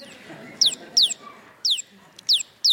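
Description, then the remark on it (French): A bird being stroked gives five short, bright clucking chirps in quick, uneven bursts, each one sliding downward in pitch, over a soft background hum. “Et merci à l'oiseau.”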